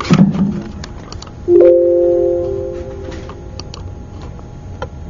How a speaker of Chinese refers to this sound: 对，用这个 电脑。 OK， 那我用。 鼠标这样。鼠标也行。 OK， 我知道，我放这。再点一下，这是。